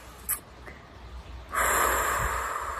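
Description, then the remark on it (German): A single deep, audible breath, a long airy rush that swells in suddenly and holds for over a second, fairly loud, with a brief sniff just before it. “Atmen.”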